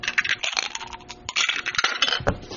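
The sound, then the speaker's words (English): A handful of dice rattle and clatter across a hard tabletop in quick, irregular bursts of sharp clicks, fairly loud, with no voices, as a player rerolls 6s during a game. “I'll spend a fate and reroll 6s.”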